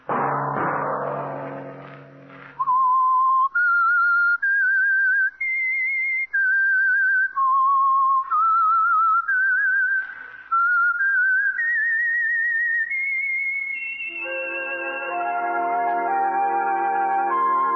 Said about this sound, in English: Whistle be your signal each Sunday for the Signal Oil program, The Whistler.